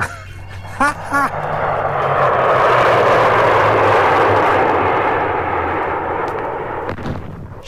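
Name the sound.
airplane flying overhead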